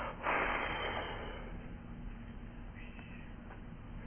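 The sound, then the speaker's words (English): A single loud, breathy exhale rushes out, then tapers off into quiet background hiss with no talking. “So make yourself available by breathing out. It's okay to make noise there, you know.”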